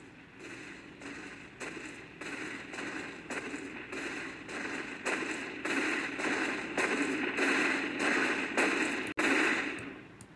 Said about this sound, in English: In your science fiction view of what it's like to be stalked by a T-Rex, say you're camping in a forest and then you hear those thundering footsteps.